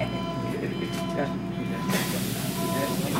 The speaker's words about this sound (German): Ich soll nun die U-Bahn nehmen, in den Stadtteil Wedding. Viele Passagiere wirken wie Schauspieler.